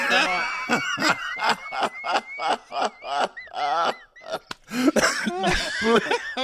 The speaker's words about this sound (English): Please, you know that I get, when I start laughing, I get these coughs. And it just kills.